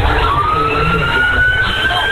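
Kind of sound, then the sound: vehicle, fire truck sirens approaching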